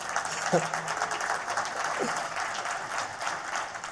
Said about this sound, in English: Oh, yeah, you can applaud them, sure. Stand up, guys.